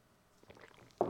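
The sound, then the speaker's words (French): A quiet, brief slurping sip of hot coffee with soft wet gurgles, ending in a sudden louder gulp or clunk. No one speaks. “Je sais, c'est quétaine, mais ça me permet de faire une transition puis prendre une petite gorgée de café.”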